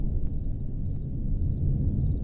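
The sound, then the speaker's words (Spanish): Crickets chirp at night in a steady, high-pitched trill that pulses in short bursts, set against a low, constant background rumble with no voices. “Estos son grillos, ¿no? Claro, esto es de noche.”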